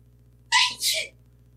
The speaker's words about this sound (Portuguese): Olha, ele tá espirrado. Esse espirro tem, foi ponto de XP, viu, por esse espirro aí. Esse espirro foi o espirro do elfo negro, velho.